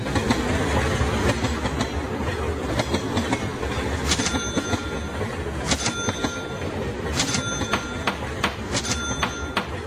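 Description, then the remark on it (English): A CSX freight train moving goods rolls steadily along the rails, a dense continuous rumble punctuated by sharp metallic clacks and bursts of wheel noise, loud with no voices. “CSX trains are the most cost-efficient way to move goods to market.”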